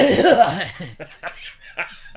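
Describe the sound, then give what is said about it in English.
Someone performs an exaggerated old man's cough: a throaty, groaning rasp followed by three short, breathy hacking bursts, with a laugh-like quality to the voice. “Shit, I caught myself the other day having an old man cough.”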